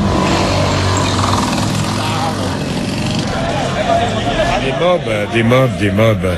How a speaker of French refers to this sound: Des mobs comme celle-là, il y en a 30 000 dans Cotonou. Ouais. Ce sont des taxis, des petites motos-taxis. Ça roule dans tous les sens, c'est pratique, c'est pas cher, ça transporte tout, partout.